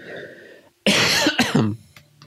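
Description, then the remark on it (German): A single loud cough bursts out after a brief pause, breaking into a couple of raspy follow-up hacks before trailing off into quiet background hiss. “Vielleicht einmal kurz husten und dann ein knackiges Ende.”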